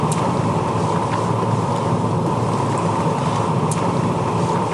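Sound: car engine running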